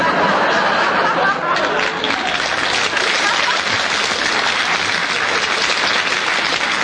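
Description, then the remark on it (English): A studio audience applauds steadily after Kenneth Williams challenges for deviation in a panel game, a dense, loud wash of clapping that holds evenly for several seconds, with faint murmurs and a little laughter mixed in. “We're getting slightly to the stage, Kenneth, where as long as you challenge, the audience will applaud.”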